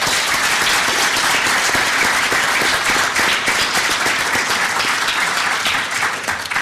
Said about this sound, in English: A round of applause for Bishop Donald McKeown.